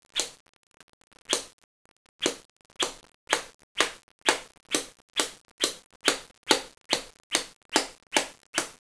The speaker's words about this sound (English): gonna get a good, hard, vigorous switching to that backside and that upper and those upper thighs.